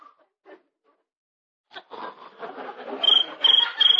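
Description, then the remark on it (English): A little cricket chirps three times in a steady rhythm, shrill, in the countryside, making the noise by rubbing its legs together, over a bed of rustling, scratchy noise that begins after a near-silent opening. “That's just a little cricket.”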